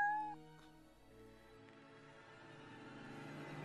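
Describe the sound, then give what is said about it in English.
A cat gives a single drawn-out meow, starting bright and tonal and then sliding into a lower, wavering whine that fades out, with no one talking. “You hungry, kitty? Yeah, me too.”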